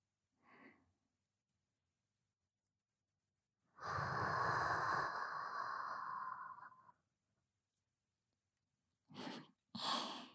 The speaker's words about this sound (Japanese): 私の吐息感じる？私の口の中、あったかそうでしょ。